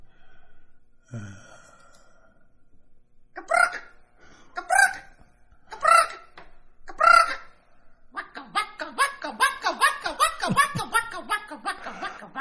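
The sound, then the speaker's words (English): A person imitates an acorn woodpecker: four loud, nasal, harmonic squawks at a steady pace, followed by a fast chattering run of repeated calls, with no talking. “This is either an actual acorn woodpecker or someone imitating an acorn woodpecker.”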